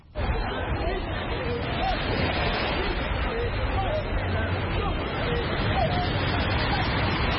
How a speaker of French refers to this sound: À la plage d'Angor, samedi matin, ils sont plus d'une cinquantaine dans l'eau, munis d'un gilet et d'une bouée. Ils suivent à la lettre les consignes du moniteur.